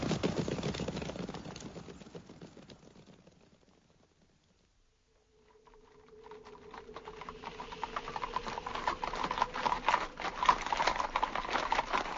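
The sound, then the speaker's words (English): Horses' hooves clip-clop in a steady, busy patter as a handful of battle-scarred men ride weary horses toward Isengard, fading away almost to silence midway before the trotting returns and grows louder toward the end, with no voices. “A handful of battle-scarred men on weary horses.”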